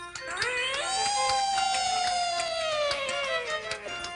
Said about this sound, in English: For me? No, you shouldn't have. Oh, it's a little siren for my handlebars.